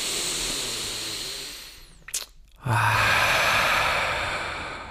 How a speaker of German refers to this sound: ein tiefes Durchatmen schadet nie.